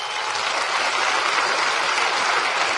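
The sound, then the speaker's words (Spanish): A crowd applauds steadily for Mr. Diz DeVos, a co-founder of the system, a dense, even wash of many hands clapping at a constant loud level for a few seconds, with no voices standing out. “y otras las escuchaba recientemente de uno de los cofundadores de este maravilloso sistema, que es el señor Diz DeVos, para el que pido un fuerte aplauso.”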